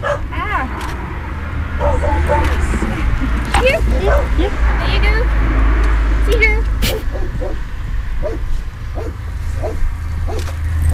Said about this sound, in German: Man hört das Foto klicken und wie wir beide versuchen, die Ziege zu bespaßen.